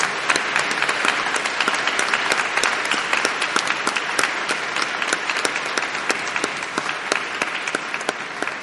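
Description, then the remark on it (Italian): Sustained audience applause for the Fondazione Centro Studi Campostrini, a dense patter of many hands clapping steadily and fairly loudly for several seconds, with no voices standing out. “Intanto grazie alla Fondazione Centro Studi Campostrini, facciamo un applauso.”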